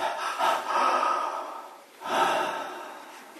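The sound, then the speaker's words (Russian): A voice imitates the sharp, held-breath gasp of a crowd who ran from Navadvipa: a breathy intake of air, followed after a short pause by a second hissing rush of breath, with no words spoken. “Все затаили дыхание. Представьте, все, кто прибежал из Навадвипа, они такие...”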